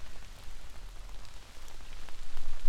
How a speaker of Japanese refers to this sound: 雨宿りできるとこ、知ってるけど。